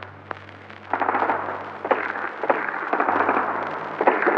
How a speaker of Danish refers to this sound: Her en ildkamp mellem frihedskæmper og nazister i Nyhavn. Lidt hen fra Kongens Nytorv.